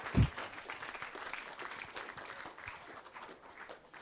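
A crowd applauds the band in a steady, dense patter of many hands clapping, starting with a sharp thump and then holding at a moderate level before easing off slightly.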